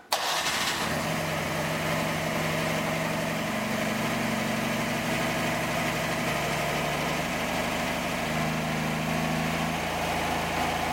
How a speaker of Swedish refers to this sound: Så ja, vi har ju faktiskt en litet klipp här på hur det låter när en Gliving special smattrar igång för första gången.